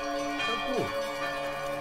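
Church bells ring with steady, overlapping metallic tones that hum continuously throughout, moderately loud, with a brief faint voice-like sweep partway through.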